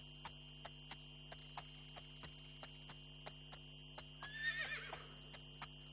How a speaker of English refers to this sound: Wow, what a beautiful black horse. I wish I had brought some sugar cubes with myself. Horses love sugar.